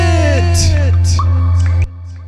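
Several loud, echoing screams with swooping, wavering pitch ring out over a deep steady drone, then cut off sharply, leaving a faint fading tail.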